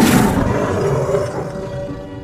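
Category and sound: animal, tiger roaring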